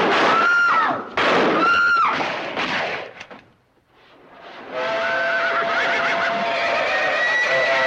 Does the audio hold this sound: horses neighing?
yes